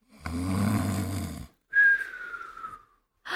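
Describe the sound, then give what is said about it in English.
A person mimics snoring: a long, rumbling nasal inhale followed by a whistling, descending exhale, then the start of another snore cut off at the end. Fairly loud, with no talking. “You snore! I really snore.”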